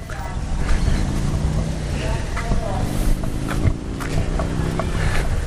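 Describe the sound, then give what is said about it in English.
A car engine rumbles as the vehicle slowly backs in, a steady low drone with faint outdoor noise and muffled voices in the background. “Sorry, just a car backing in.”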